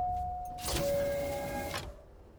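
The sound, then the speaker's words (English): An elevator door at floor level 9 slides open with a steady motorized whir and a faint humming tone, lasting just over a second before stopping and leaving a low background hum. “Floor level 9. Door opening.”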